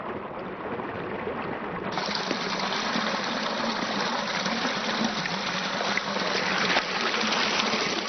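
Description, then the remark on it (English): Water steadily drains out of a rice paddy stocked with golden carp in Longshen, lowering the water level: a constant rushing and gurgling flow that grows slightly fuller after a couple of seconds and keeps going without pause; no voices. “But before he starts work, he needs to let some water out of the system. As the water level drops, the mystery is revealed.”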